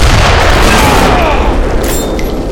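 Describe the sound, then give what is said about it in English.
A loud bomb explosion from a cannon roars through the whole moment, the bomb bursting against raised golden metal wristbands in a courtyard, a dense booming rumble with heavy low end and crackling debris that barely fades by the end. No one speaks. “A bomb burst exploded against his upraised wristbands.”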